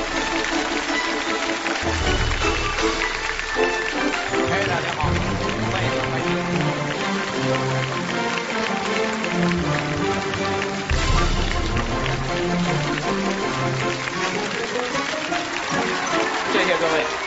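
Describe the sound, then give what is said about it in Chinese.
Sustained audience applause, a dense, even crackle of many clapping hands, rolls on for about seventeen seconds over upbeat stage music with a steady low bass pulse, as the audience welcomes the day's guest speaker, Chai Xiaoming, head of the Chinese Academy of Cultural Heritage, to the stage. “那么接下来掌声有请我们今天的开讲嘉宾，中国文化遗产研究院院长柴晓明，有请柴院长。”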